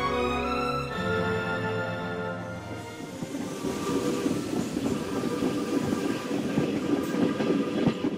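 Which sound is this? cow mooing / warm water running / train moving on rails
train moving on rails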